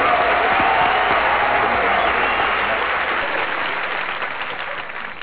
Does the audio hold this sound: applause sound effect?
yes